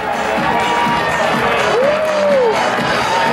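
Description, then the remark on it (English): A loud, steady crowd of casino gamblers cheers and shouts for Donald to be their next president, a dense wash of voices with one rising-and-falling whoop standing out briefly in the middle. “No wonder they cheer for him to be their next El Presidente.”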